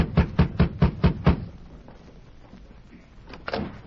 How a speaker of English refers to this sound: The sheriff rapped on the door.